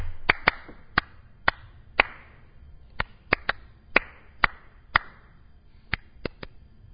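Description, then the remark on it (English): About fifteen sharp hand claps tap out the rhythm of the tune "Happy Birthday", some in quick pairs and others spaced apart, with nothing else but faint background hiss. “I'm going to clap a little rhythm for you.”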